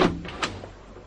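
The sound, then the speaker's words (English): The door of a hospital room opens with a quick thump followed by a couple of softer clicks and rattles, fading within about a second; no one speaks. “The door opened, and Liz Davis came in.”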